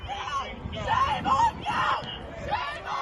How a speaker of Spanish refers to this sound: Ya van más de 1,000 arrestados en todo el país y a gritos de vergüenza claman contra el apoyo incondicional de Estados Unidos a Israel.